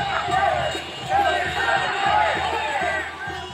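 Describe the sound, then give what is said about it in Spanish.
A large crowd of immigrant protesters, mostly Latin American, shouts and chants together on Seventh Avenue in New York, shouting in Spanish and holding signs. The sound is a dense, continuous roar of overlapping voices that holds steady with brief louder surges, and no single speaker stands out. “Levantaban carteles con consignas como «Las propinas no son salarios», «I love New York», y gritaban en español.”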